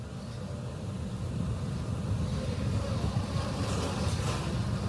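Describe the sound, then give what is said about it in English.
A steady, powerful roar from a rocket's nine Merlin 1D engines, thick with low rumble and crackle, holds at a constant loudness as they power back up to full thrust after the throttle bucket and the rocket goes supersonic, with no voices over it. “The 9 Merlin 1D engines Mach going one. Back to full power.”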